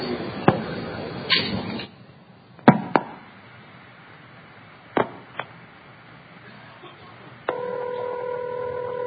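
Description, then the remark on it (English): Over a narrow telephone line, on a call routed over a trunk from New York to a distant 4A, a trunk supervision handshake (off hook, on hook) sounds as several sharp clicks and a brief noisy burst, followed by a steady ringing tone near the end. “That's the supervision handshake, off hook, on hook.”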